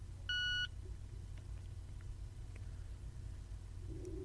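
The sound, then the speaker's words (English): A single short electronic beep from a Victor Reader Stream audio player powering on as its power button is held down, steady and tonal, sounding over a low constant rumble of background noise. “So I'm going to hold down the power button to turn on the unit.”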